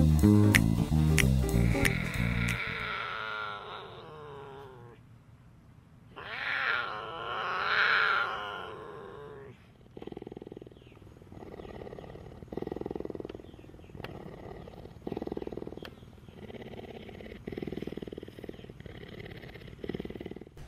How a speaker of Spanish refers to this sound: ¿Tripulantes, escucharon eso? Sí. Sí. El sistema me reporta que es un gruñido de un tigrillo.